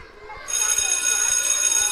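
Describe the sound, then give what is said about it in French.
A school bell starts abruptly after a quiet half-second, then rings continuously: a loud, bright, metallic electric ringing that holds steady to the end. “Quand la cloche sonne, nous montons chacun dans notre classe.”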